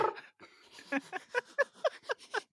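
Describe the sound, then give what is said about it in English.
A person voicing the cat Revel imitates a cat's purr, a rhythmic series of about ten breathy voiced pulses rolling steadily for a couple of seconds, with no other talking. “Voicing cats.”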